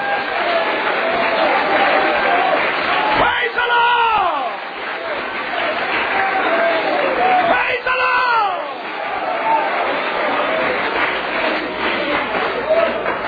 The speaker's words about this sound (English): Would you stand and clap your hands? If you feel like God's able to fill you with the Holy Ghost, or He's able to answer a problem, He's able to make a way. If you really believe that, clap your hands to Him right now.